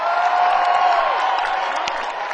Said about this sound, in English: give Dave a Texas round of applause.